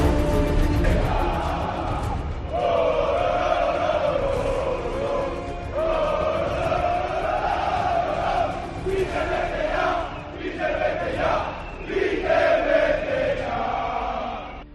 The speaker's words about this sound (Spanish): Final, final en Mestalla. Valencia 2, Las Palmas 3. Escuchamos a Mestalla. Sonido de viento, pañuelos, suena la megafonía a todo trapo con el himno del club.